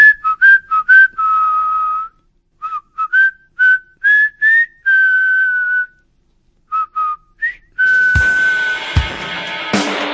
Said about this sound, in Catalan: Per la ximeneia va caure un altre braç i en Pere es va posar a xiular.